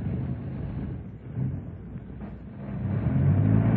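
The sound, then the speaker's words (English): A car engine runs in a garage with a continuous low, throbbing rumble that swells slightly toward the end. No one speaks. “Could you stop the engine for a bit?”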